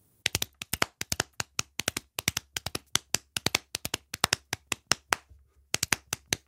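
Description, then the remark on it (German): Hands clap along in a steady, repeating rhythm, crisp, with quick doubled claps in a patterned beat and a brief pause near the end, no voices. “Der geht irgendwie anders jetzt als gestern, wundert sich Frau Krüger und klatscht mit.”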